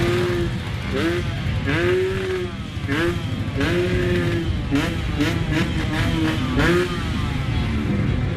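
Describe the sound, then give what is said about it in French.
A scooter ridden by a 16-year-old revs again and again, its engine whine sweeping up and dropping back in quick bursts, loud against a steady wash of busy street traffic. “Juché sur son scooter, Joaquin, 16 ans, est à peine plus âgé que son pays et encore trop jeune pour voter.”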